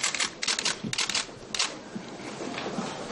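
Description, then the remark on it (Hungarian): A rapid flurry of camera shutters from photographers clicks in bursts, several overlapping at once, in the crowded Jobbik press room in the parliamentary office building, before a press conference with Béla Kovács. A steady murmur of background noise settles into a softer hum toward the end. “Kamerákkal, fotósokkal és újságírókkal volt tele a Jobbik sajtóterme a képviselői irodaházban. Volt, aki külön le is fényképezte a tömeget.”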